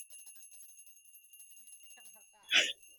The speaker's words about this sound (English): She gets a little bell.